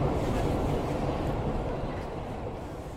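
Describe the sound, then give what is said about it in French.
A steady, heavy rumble of a metro train in motion heading toward Percy-Clamart military hospital, a dense low roar with faint rattling above it, holding constant and easing slightly toward the end. “Nous prenons le métro direction Percy-Clamart, hôpital militaire.”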